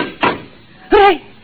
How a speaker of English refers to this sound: The door's closed behind us. Try the lock. No, it's no use. Here, let me try. Oh, holy smoke, I can't get it open.